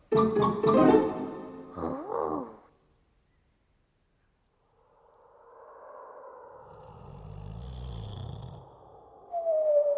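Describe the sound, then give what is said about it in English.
The Gruffalo snores on a snowy night: a deep, growly snore, a long, slow rumbling breath that builds into a low rattling snort, following a few brief tonal sounds and a short silence. “One snowy night, when the Gruffalo snored, the Gruffalo's child was feeling bored.”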